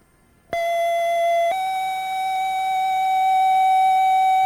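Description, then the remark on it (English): A loud, steady electronic intruder alarm tone from an RC850 repeater controller starts abruptly, holds a sustained pitch, then steps slightly to a second sustained tone and continues unbroken with no speech. “The RC850 controller will also leave you a voice message indicating the time and date and nature of the alarm.”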